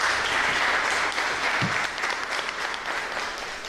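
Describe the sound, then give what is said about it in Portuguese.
A round of applause from a crowd at a debate at ICRA in Luanda, Angola, dense steady clapping that holds strong throughout and eases slightly toward the end, with no voices standing out. “Merece uma salva de palmas, hein?”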